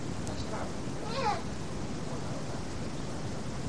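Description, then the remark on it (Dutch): A single short cat meow, rising then falling in pitch, rings out over a steady background hiss, with faint, indistinct voices around it. “Wie woont er nou in het huis? Poes.”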